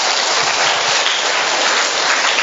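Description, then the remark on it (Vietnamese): A crowd applauds steadily, a dense wash of many hands clapping at once, loud and close, sustained without a break and with no voices over it. “Chúng ta cho một tràng pháo tay thưa anh chị em.”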